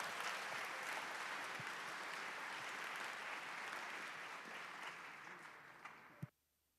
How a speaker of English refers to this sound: I'm not sure, but give a big hand and a round of applause for our speaker